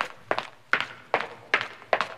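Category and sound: sound effect, footsteps on pavement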